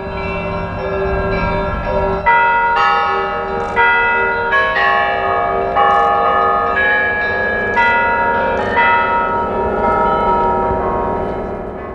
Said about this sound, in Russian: На Спасской башне Московского Кремля вновь заработали куранты после установки новых колоколов. Давайте сразу их и послушаем.